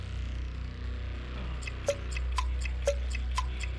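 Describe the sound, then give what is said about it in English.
A quiz countdown clock ticks at a quick, steady pace, timing 30 seconds for a contestant answering questions, its sharp clicks starting partway through over a low, constant hum, with no voices present. “we've got 30 seconds on the clock for you.”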